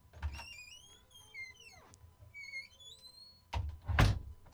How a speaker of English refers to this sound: Okay, time for a test. Let me hear you open and close that door beside you.